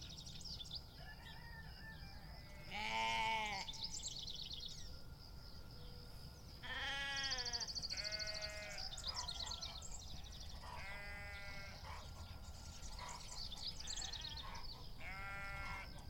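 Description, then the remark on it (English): Sheep bleat several times, a few loud wavering calls and others softer, spread out irregularly over a steady outdoor background with faint birdsong. “Can you hear the sound of sheep?”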